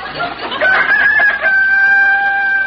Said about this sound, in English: Oh, rooster, you shut up.